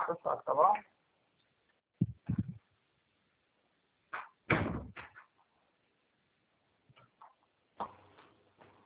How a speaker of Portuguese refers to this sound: Fecha a porta, por favor. Fecha.